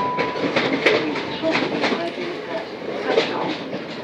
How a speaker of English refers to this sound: Yeah. I think this train's going to Cannon Street.